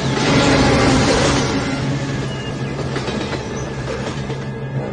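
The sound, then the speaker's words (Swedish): Two railway wagons roll quickly along the tracks with a loud, steady rumble and faint rhythmic clicking of wheels, plus a metallic ringing hum; no one speaks. “Men tänk att vi har två vagnar och de män. Så vi rullar fortare.”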